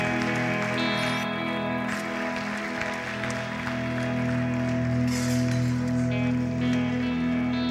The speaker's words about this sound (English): You guys are doing good. Everyone's going to keep clapping for you. It's great. It's great.